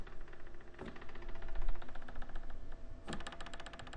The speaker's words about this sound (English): Living room door when it sort of...